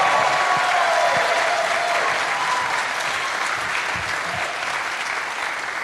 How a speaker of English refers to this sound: Let's give her a cheer. Well done.